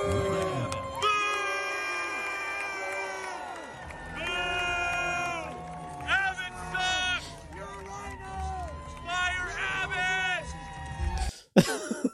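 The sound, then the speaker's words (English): A large crowd at a Trump rally boos Texas governor Greg Abbott in long, sustained, overlapping low vocal tones that swell and dip for about eleven seconds before breaking off abruptly. “Lauren Witzk points to the fact that a Trump rally was booing Greg Abbott from Texas.”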